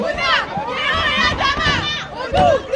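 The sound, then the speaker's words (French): A crowd of students shouting in protest for Théo and others outside the Lycée Turgot, where bins and clothing containers block the main entrance, many raised voices overlapping into a loud, continuous roar with rising and falling yells and no break throughout. “À Turgot, on crie pour Théo et les autres.”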